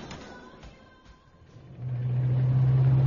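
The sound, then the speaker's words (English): A car engine builds from a quiet rumble into a steady, low droning hum that grows louder as the vehicle pulls away. No one speaks. “I got a car outside.”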